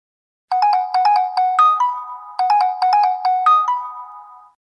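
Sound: telephone ringing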